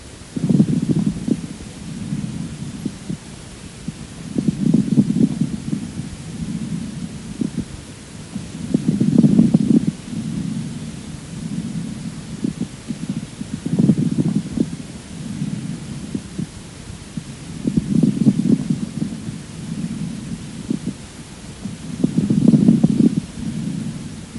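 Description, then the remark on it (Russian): Moist, medium and coarse bubbling lung crackles of a patient with bronchiectasis sound through a stethoscope, rising with each breath in a slow, steady rhythm of about five low, muffled cycles, fairly loud. “Сейчас вы услышите влажные, средне- и крупнопузырчатые хрипы у пациента с бронхоэктатической болезнью.”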